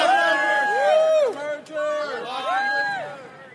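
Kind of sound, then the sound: crowd, protesters chanting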